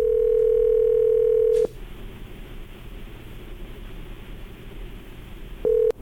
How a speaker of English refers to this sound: Well, here we go. Your phone's ringing here, so hold on